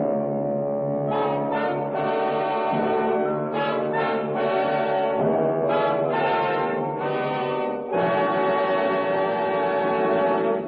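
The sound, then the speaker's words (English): A ship's foghorn sounds in fog in long, loud, droning blasts, a deep buzzing tone thick with overtones that swells and shifts slightly between blasts but barely pauses. No one speaks. “looking out at nothing, listening to the foghorn and the beat of the ship's engines”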